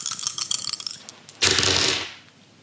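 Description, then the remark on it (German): Dice rattle with a quick run of sharp clicks, then tumble across a hard surface in a brief, louder clatter that fades out as they are rolled to pick a question in a game. Fairly loud, with no talking. “Heute darfst du ja die Frage vorlesen und ich darf würfeln.”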